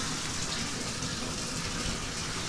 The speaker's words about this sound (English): as soon as she heard me turn the water on in the bathtub, of course she's got to come running in.